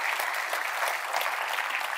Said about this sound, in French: Est-ce qu'on peut applaudir notre Dieu qui fait toutes choses merveilleuses?